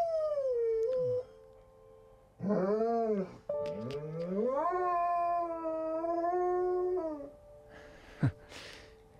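A dog named Tigon howls along to music in long, wavering, pitch-sliding notes, rising and falling over several seconds against faint steady tones of the background music, then ends with a short yip.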